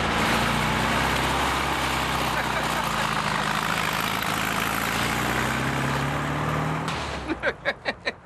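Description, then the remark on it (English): A one-of-a-kind, still-unfinished car its owner has been building for years: the engine rumbles loudly and steadily, then eases off near the end as the car pulls away, leaving a few short rhythmic thumps. “Well, listen, thanks for coming by and showing us your car. Okay. Okay, now you take it easy out there on the road.”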